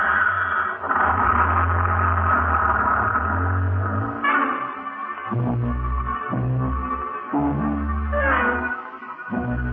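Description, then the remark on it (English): Ackerman's small sightseeing bus, driven away by Colonel Lucius Porteous, rumbles and revs as it pulls off, its low throbbing drone holding for several seconds before giving way to steady, shifting low tones. “Honey and I stand there like a couple of outfielders watching one sail over the fence while Colonel Lucius Porteous drives away in Ackerman's dinky little sightseeing bus.”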